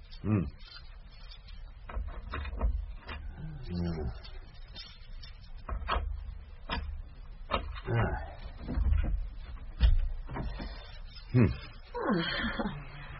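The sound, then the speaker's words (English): A locked door is worked open by a chief inspector with a series of sharp clicks, rattles and clunks spread over several seconds, while low, indistinct voices murmur underneath. “Well, if I can open the door, would you allow me in, mademoiselle?”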